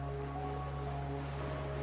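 A steady wash of surf noise, like sea waves rolling and breaking onto the shore of a sandy beach, with a low constant humming drone beneath it. No one speaks.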